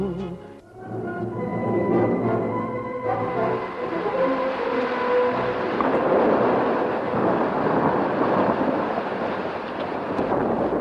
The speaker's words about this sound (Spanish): Noche del 25 de septiembre, noche trágica para Barcelona y su provincia. Tormentas y trombas de agua cayeron sobre el Vallés. Los ríos y los torrentes se desbordaron.